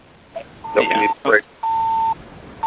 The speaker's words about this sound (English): We have fabulous background noise. I don't know if we can figure out. Now somebody's got a beeping kind of busy signal. That's not me, but I wanted to know.